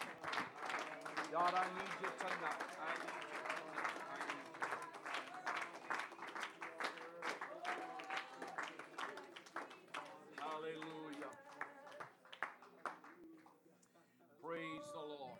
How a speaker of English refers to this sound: Praise the Lord. Clap your hands unto the Lord and just bless him.